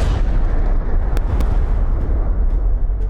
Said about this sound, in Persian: جی رابرت اوپنهایمر ملقب به پدر بمب اتم در لحظه انفجار اولین بمب در نیومکزیکوی آمریکا شعری از بهاگواد گیتا حماسه معروف هندیان را نقل می کند.